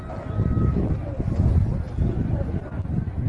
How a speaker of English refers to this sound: Not a lot of audio to this, except for it's a recording and a video. I play it because you can hear the crowd off in the distance. They're not even there yet, ladies and gentlemen.